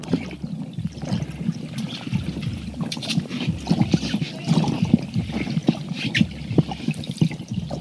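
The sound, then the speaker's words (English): Muffled, continuous underwater churning and gurgling picked up by a hydrophone in a 120-foot pond at the Slush Cup in Juneau as a skier skis across it, with a dense low rumble and scattered bubbly clicks and splashes, steady and fairly loud throughout with no voices. “Now let's turn on the hydrophone.”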